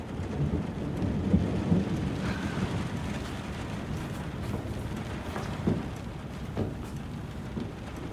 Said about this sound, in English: Please, it's raining hard.